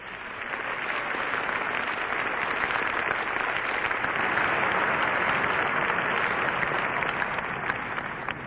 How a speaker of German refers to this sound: Alle Veranstaltungsorte der Schweiz grüßen euch nun mit einem kräftigen Applaus. Und wir grüßen mit einem kräftigen Applaus zurück.